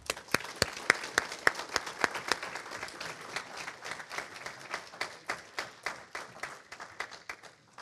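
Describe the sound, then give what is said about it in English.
A room full of people applauding two graduates during announcements, with many overlapping claps forming a dense, steady patter that thins slightly toward the end. “So if you want to come on down, we'll give you a Bible and we can give them a round of applause.”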